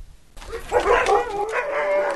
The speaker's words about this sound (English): So, we went to meet the dogs, who gave us a rousing welcome, as you can hear.